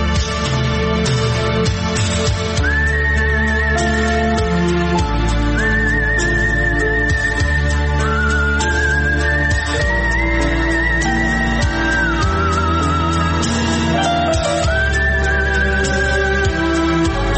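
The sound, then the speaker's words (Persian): A clear whistled melody floats above a full instrumental backing, the sustained notes gliding up and down in long phrases. No one speaks. “خیلی علاقه مندن به استفاده از سوت توی کاراشون.”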